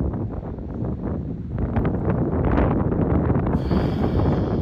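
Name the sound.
wind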